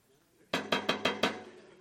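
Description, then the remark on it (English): Five quick, forceful, loud knocks on a door in a steady, rapid rhythm, knocking harder to get someone's attention, following a brief moment of near-silence, with no one speaking. “You knock harder.”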